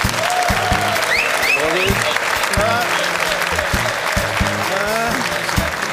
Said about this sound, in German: Und ich bin gespannt auf den Applaus für Stefan Effenberg.